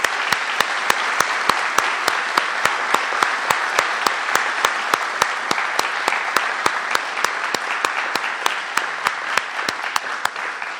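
Sustained applause from a sizable audience for a group of students, steady dense clapping for about ten seconds at a strong, even level with no voices over it.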